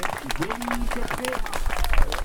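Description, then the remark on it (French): An audience applauds steadily, dense irregular clapping that stays loud throughout and swells slightly toward the end, with a voice speaking underneath the clapping. “je pense qu'on peut l'applaudir encore bien fort.”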